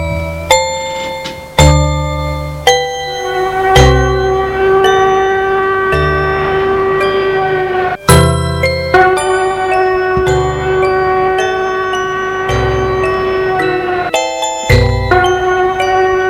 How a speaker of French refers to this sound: Alors un système de défense l'a fait décharger un rayon très puissant dans la main et en même temps a mis en route une alarme.